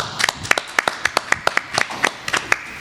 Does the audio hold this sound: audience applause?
yes